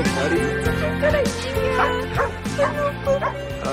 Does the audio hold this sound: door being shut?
no